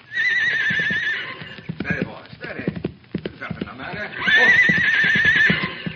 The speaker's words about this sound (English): Hey, here he comes. I get down and out of sight. Let the horse get a little bit past so he won't rear up. Now keep quiet.